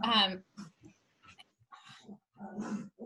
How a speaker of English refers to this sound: you might hear my dogs